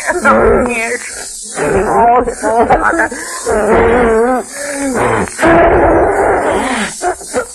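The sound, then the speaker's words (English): A voice breaks into loud choking sobs, wavering wails and gasping catches in several ragged bursts, with hissy breathiness between them, from someone clutching a double-ended deer-stalking cap. “Yes, I clutch after boy's double-ended deer-stalking cap to my bosom and choke with sobs as I look at the grim relic.”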